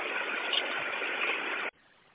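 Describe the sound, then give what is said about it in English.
A bus engine that has been running for 19 minutes idles with a steady, even rumble for nearly two seconds, then abruptly drops away to a much quieter hum. “Okay, how long has the bus been running? 19 minutes.”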